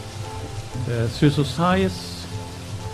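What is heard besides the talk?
heavy rain pattering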